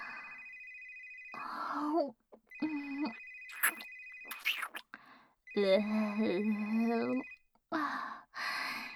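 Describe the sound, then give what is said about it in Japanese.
A telephone rings in three steady, clear electronic bursts, while soft breathy vocal sounds and murmurs continue underneath and between the rings. “どうぞ電話に出てください。”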